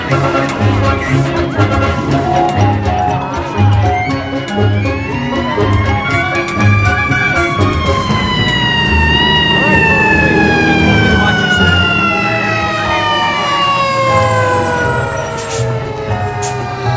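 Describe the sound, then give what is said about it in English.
A fire engine siren wails loudly as the fire engine speeds through narrow streets, its pitch sweeping up and down over a steady engine rumble as the truck races past, filling the whole stretch with continuous sound. “The fire engine speeds through the narrow streets.”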